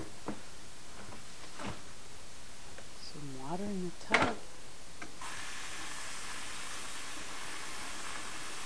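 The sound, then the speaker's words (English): A few sharp clicks and a brief rising-falling vocal sound, then a steady, hissing rush of warm water starts pouring into a bathtub for a bath and keeps running to the end. “I'm gonna put some water in the tub.”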